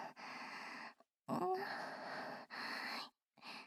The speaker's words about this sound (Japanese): デカ乳の重さを感じながら、谷間に鼻先を突っ込んで、鼻息荒く深呼吸。